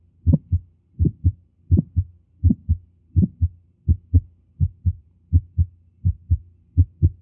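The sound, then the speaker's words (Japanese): Heart sounds with an ejection click: a steady rhythm of about ten paired low thumps, each beat carrying a brief, sharper click just after the first sound, alone without any talking. “さて、これはいわゆる屈出性のクリック音、0コンマ0.7 秒の分裂があるわけですね。”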